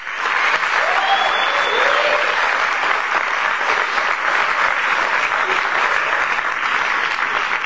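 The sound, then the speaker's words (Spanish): A crowd at a project presentation event in Colombia claps steadily and loudly for several seconds as a speaker is introduced, a dense, even wash of applause with a few faint whistles or cheers near the start, then the clapping slowly thins toward the end. “Un aplauso para él.”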